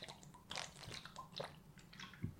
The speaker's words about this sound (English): Sorry, I was drinking. I heard the gulp.